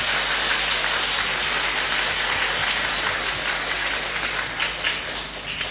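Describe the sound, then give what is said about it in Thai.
A crowd applauds labour leader Somsak with steady, dense clapping that holds an even, loud level throughout, a continuous wash of hand claps with no voices standing out. “แต่ผมอยากให้ปรบมือคุณสมศักดิ์อีกครั้งหนึ่ง”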